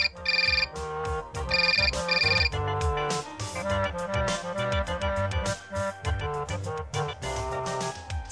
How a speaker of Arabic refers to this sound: تذكر هذا يا صديقي عندما تسمع رنة الهاتف في منتصف الليل.